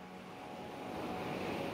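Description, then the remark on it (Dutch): Ocean waves breaking on a beach: a soft, continuous hiss of surf that swells gently louder over a couple of seconds, with no voices. “Je hoort het geluid van de branding.”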